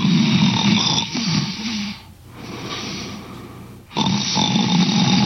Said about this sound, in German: Dummerweise erschlaffen dabei aber auch ein paar ganz bestimmte Muskeln im Rachen, die oft dafür sorgen, dass es laut wird im Schlafzimmer. Sie sind der Hauptgrund für Schnarchen, das so vielen den Schlaf raubt.